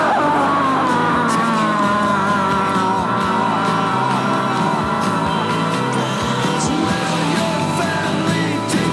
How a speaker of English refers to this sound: Meanwhile, in hell, George Walker Bush screams.